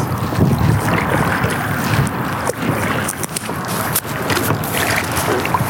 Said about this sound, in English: All right, let me back the boat up here.